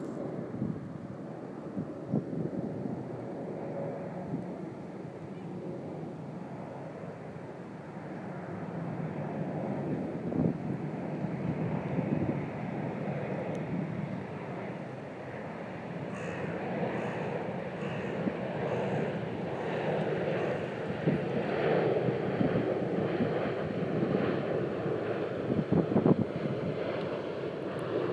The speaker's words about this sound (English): And that's one of the quieter planes of the afternoon so far. And that happens, as people will know from my other recordings, about every minute or so for the rest of the day.